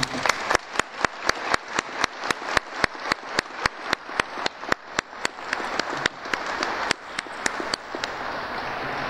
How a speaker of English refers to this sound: So I think that it's appropriate to give her and everybody, all the artists who worked on these beautiful ornaments, a round of applause, please.